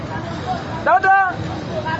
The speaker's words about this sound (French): Au parking situé au Ropo Nyamwisi, dans la ville de Beni, où au moins 5 agences de voyage embarquent des passagers vers différentes destinations, l'entassement est toujours observable.